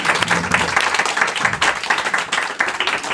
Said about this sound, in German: Ich danke euch, dass ihr hier eure Erfahrungen geteilt habt. Großen Applaus